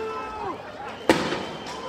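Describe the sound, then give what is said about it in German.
A single sharp, loud shot from a tear gas grenade launcher cracks out over a restless outdoor crowd, with voices murmuring in the background. “Ja, die schießt jetzt Gas wieder hier.”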